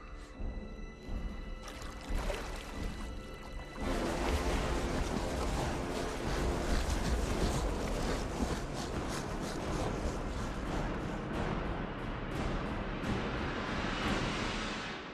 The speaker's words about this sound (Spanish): El río corre por un terreno abrupto y serpentea entre altos muros de piedra.